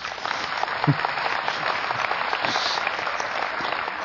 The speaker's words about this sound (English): Because we'll edit that part out where I said that's a great place for an applause. So when you listen to it, it'll be just this rousing applause.